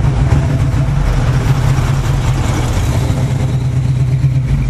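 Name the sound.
car engine passing by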